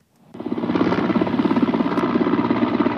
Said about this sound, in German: Ein Hubschrauber schüttet nach russischen Angriffen in der Nacht Kübel voller Wasser auf das Dach eines Regierungsgebäudes in der ukrainischen Hauptstadt Kiew. Dort ist Feuer ausgebrochen.